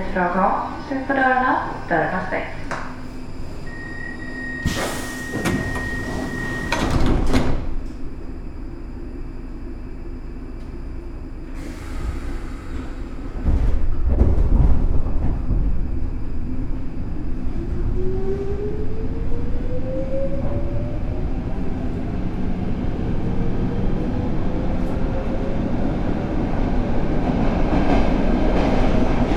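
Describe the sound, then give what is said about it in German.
A Stockholm metro train at a station platform: sharp bursts of air hiss and a heavy rumble, then a rising electric motor whine as the train pulls away, with faint voices in the background. “Nach der grünen Linie wurde die rote Linie als zweite Hauptlinie der Stockholmer U-Bahn im Jahr 1960 fertiggestellt.”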